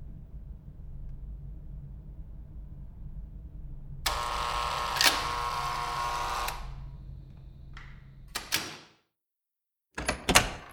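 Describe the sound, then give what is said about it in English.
A door swings open with a drawn-out, grinding scrape over a low background rumble, followed by a couple of sharp knocks, a brief silence, and a few closing clicks. “Maybe I should come on in and we'll get this door closed.”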